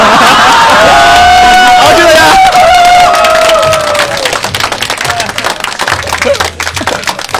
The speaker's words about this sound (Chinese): 大家好，大家给自己的到来再鼓鼓掌好不好？非常开心见到大家。